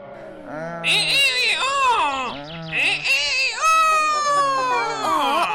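A voice imitates a boastful rooster crowing at the top of its voice, with a series of strained, wavering calls that rise and fall, ending in one long drawn-out crow, loud and continuous.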